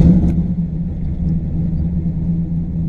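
A loud car engine rumbles steadily, a deep low drone holding for a few seconds as the car drives past on a street in the city centre of Mannheim, Germany, with a brief sharper hiss near the start.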